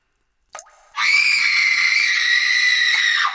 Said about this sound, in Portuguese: Fomos despertados por gritos lancinantes de mulher.